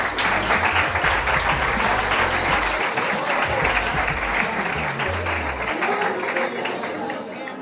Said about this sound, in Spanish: Un fuerte aplauso para ellas.